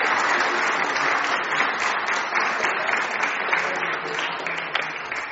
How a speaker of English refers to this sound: Can we give all our helpers a big round of applause, please?